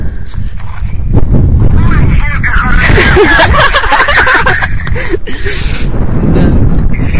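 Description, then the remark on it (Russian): Wind blows hard across the microphone, a steady loud rumbling roar for the whole stretch, with voices talking underneath and partly drowned out. “не слышу, ветер дует.”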